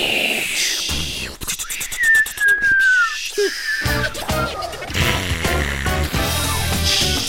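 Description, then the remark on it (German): On the NDR Info radio satire show Intensivstation, a voice mimics New Year's fireworks in place of real firecrackers: a rising then long descending whistle, followed by bursts of popping and crackling vocal noises, loud and rhythmic, with other mouth-made bangs layered over a busy background. “Und weil wir uns auch in die Böller-Ciao-Kampagne einklinken, Böller-Ciao, Böller-Ciao, Böller-Ciao, Ciao, Ciao, machen wir jetzt unser Feuerwerk wie immer selbst.”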